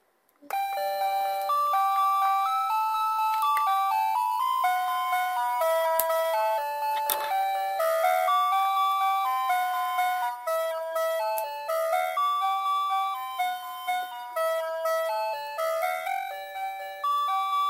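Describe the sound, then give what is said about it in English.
A toy house doorbell rings out a long, bright electronic melody, its chiming notes stepping up and down steadily for several seconds, loud with no talking over it. “You want Peppa you want to, ring, to the door ring the doorbell?”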